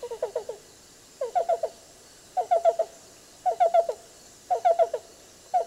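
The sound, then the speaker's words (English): A black-billed cuckoo calls in a steady rhythm, repeating quick clusters of three or four soft, hollow coos about once a second. It is clear, with no other sounds. “Black bill is going to be a little more simple like this, a little more rolling and complex song for the yellow-billed, but both of them are somewhat similar.”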